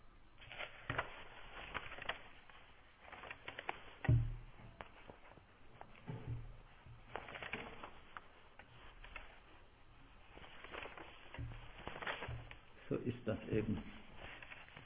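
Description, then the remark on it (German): Fairly quiet paper rustling as book pages are turned and leafed through to find where the text continues, with irregular crinkly bursts and soft flutters scattered over about fifteen seconds, some sharper flips standing out. “So, und jetzt muss ich ein bisschen blättern, dass ich mal sehe, wo das jetzt weitergeht.”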